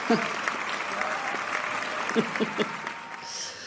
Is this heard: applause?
yes